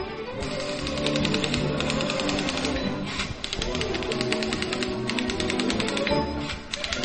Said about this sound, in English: That's right, a typewriter. A typewriter. People don't even have typewriters anymore.